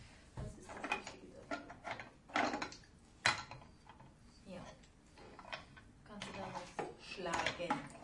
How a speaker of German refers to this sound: Genau, siehst du mal, da kannst du doch drauf rumhämmern.